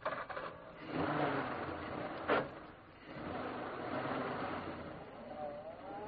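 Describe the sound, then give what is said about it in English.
A car engine is started with the ignition key after two men climb into the car: it cranks with a few clicks, catches with a sharp burst, then settles into a steady rough rumble that rises in pitch as the car pulls away. “the two men climbed into the car. I hope that ignition key of yours works”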